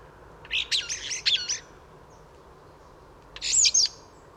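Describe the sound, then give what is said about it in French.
A mimicking songbird sings two short, jumbled phrases of rapid chirps and whistles separated by a pause, clear against a quiet outdoor background in a wood. “Le maître imitateur est revenu. Va-t-il chanter?”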